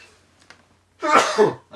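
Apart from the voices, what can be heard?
sneeze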